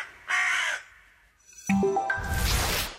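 A single loud, harsh caw from a carrion crow rings out, followed after a pause by stepped tonal notes and a noisy, rushing burst of sound.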